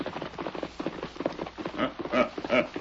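horses galloping hooves

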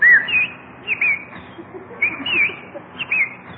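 bird chirping

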